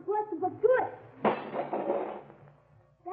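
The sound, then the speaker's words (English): A short vocal sound gives way to a sudden loud crash of a glass transom above a door being smashed with a nightstick, followed by a second of scattering, tinkling shards that fade before a voice returns. “Well, I guess we'll have to do some glass smashing.”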